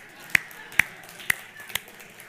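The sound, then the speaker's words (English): A brief, slow round of applause for Susanna Wesley: four sharp, evenly spaced claps, distinct, as if from a single person, with only quiet background between them. “So let's go ahead and give a round of applause to Susanna.”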